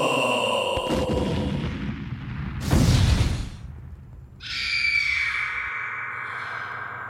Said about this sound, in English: The full echo effect is just fantastic.